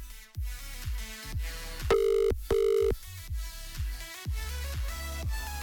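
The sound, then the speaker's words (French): Two steady ringback tones from an outgoing phone call to a radio game show contestant in Urzin, the fourth ring, each lasting about half a second, over background music with a strong bass beat; the call then goes to Swisscom Combox voicemail. “Quatrième sonnerie.”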